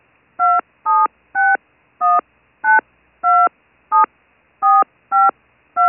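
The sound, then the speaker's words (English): Ten crisp telephone keypad tones beep one after another at a brisk, slightly uneven pace as a 10-digit home phone number is entered, area code first, loud with no voices. “Using the keypad on your telephone, enter your 10-digit home phone number area code first.”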